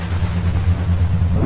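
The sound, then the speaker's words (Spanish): Hurricane wind and rain roar steadily and loudly, a dense rushing wash over a deep, continuous rumble, with no voices, lasting only a moment. “Huracán.”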